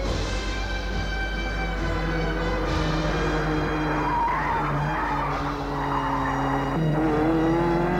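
Tires squeal and skid continuously over a roaring car engine, loud, with pitch shifting as a borrowed car races and slides in a wild drive outside Paris for the full stretch.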